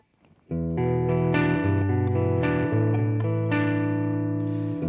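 After a brief quiet moment, loud sustained chords play back steadily, their rich tones washed in reverb that smears each change into the next. No one speaks.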